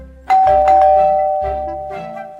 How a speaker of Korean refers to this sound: 할아버지와 이야기를 나누고 있는데 초인종 소리가 났다.